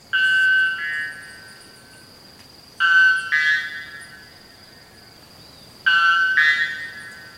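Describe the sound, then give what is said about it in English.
A white bellbird gives three loud, metallic calls about three seconds apart. Each is a harsh, ringing two-part blast with a buzzy, bell-like tone, followed by silence. No voices. “I can't believe a bird can make that sound. It's kind of metallic”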